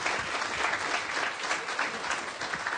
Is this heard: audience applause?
yes